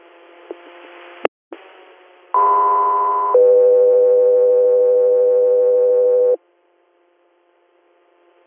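A radio dispatch alert for Echo 3 Air: two steady electronic tones sound in sequence, a higher pitch for about a second followed by a lower sustained tone for about three seconds, loud and clear over faint radio hiss and static clicks.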